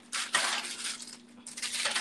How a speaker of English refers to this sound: Yeah, we see how we hear the crunch when you picking it up. Yeah. All right. And this is real. Y'all see these are whole chicken wings, y'all.